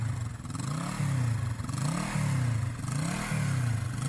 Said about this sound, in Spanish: También hay que usar casco cuando uno va arriba de una... ¡Moto! Así es. Casco. Ahí va por la avenida.